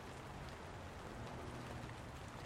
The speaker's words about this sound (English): The rain slows down and gets quieter.